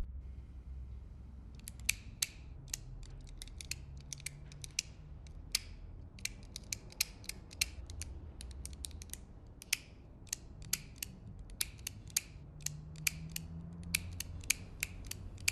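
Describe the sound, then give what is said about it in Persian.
A pen clicks over and over in quick, uneven bursts, dozens of sharp little snaps, with a low hum and faint muffled voices in the background. “با اون خودکار آروم میشی؟”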